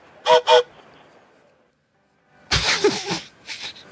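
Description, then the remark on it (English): A voice imitates a train whistle with two short, bright tooting bursts, then a pause and a longer breathy, hissing rush followed by a brief puff, like steam escaping. “Hey, I'm a choo-choo train.”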